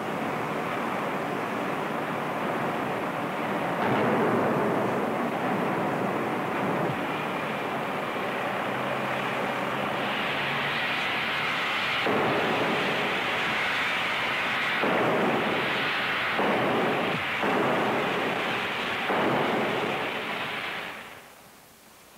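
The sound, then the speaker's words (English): A steam drop hammer forging a piece of about 1,300 pounds roars with a loud, steady hiss of steam, broken by several heavy, booming blows in the second half before the noise cuts off abruptly. Its die has a 12-foot cavity; die top half 14 tons, ram 20 tons, 68,000 pounds of falling weight. “A total of 68,000 pounds of falling weight with the added force of a full head of steam behind it.”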